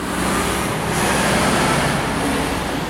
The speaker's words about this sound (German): Eine ganze LKW-Kolonne rauscht durch den Ort. Ich bleibe und beobachte weiter. Die B3 ist hier nach wie vor eine Lasterrennbahn.